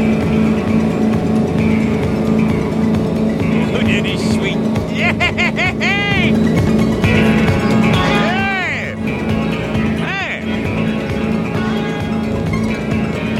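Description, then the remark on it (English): The motorboat Grease's engine roars at full throttle, loud, its pitch rising and falling in sweeping whines over a steady, dense rumble of churning water and wind. “Firewall those throttles.”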